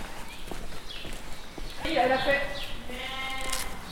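A ewe that has never given birth before and her lamb bleat in a couple of wavering, nasal calls, the longer one steady and quavering, with scattered soft knocks and shuffling underneath.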